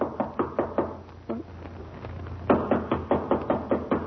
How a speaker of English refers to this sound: Well, try knocking. Maybe the bell is out of order.